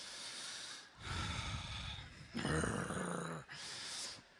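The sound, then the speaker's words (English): Heavy, rasping breaths into the microphone, about three long loud inhales and exhales in steady succession, with no one speaking. “I feel like I'm breathing like Darth Vader.”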